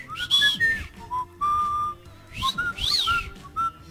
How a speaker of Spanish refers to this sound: Ah, no es lo mismo. Chiflar es silbar muy duro.